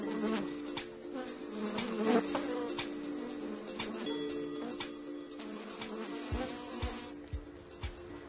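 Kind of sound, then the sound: insect, bees buzzing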